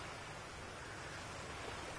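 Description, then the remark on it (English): A steady wash of ocean surf, soft and even throughout, with no distinct individual crashes, a constant hiss-like roar of waves on a shore with no voices present. “And the waves keep crashing.”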